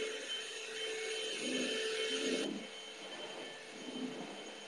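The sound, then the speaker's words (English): A vacuum cleaner runs steadily with a broad whirring hiss and shifting low tones, as if being pushed across the floor; the motor pitch drops slightly midway before continuing. “Oh, we're gonna vacuum just a little bit more.”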